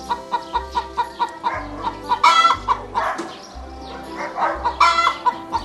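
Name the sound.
hen clucking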